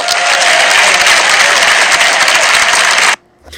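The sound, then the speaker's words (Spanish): Loud, dense applause from an audience, a steady wash of many hands clapping for about three seconds before cutting off abruptly into near silence, greeting the announcement that Villarreal Club de Futbol has renewed Santi Cazorla for the next year. “Aplaudiments per a la continuïtat de Cazorla al Villarreal Club de Futbol”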